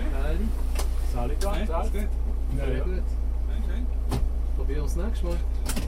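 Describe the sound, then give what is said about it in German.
Inside an idling police patrol car, voices talk over a steady engine hum while a power window whirs and a door shuts with a single sharp thud as officers get back into the vehicle. “Nach ungefähr 20 Minuten wird die Umstellung abgezogen. Wieder ins Fahrzeug.”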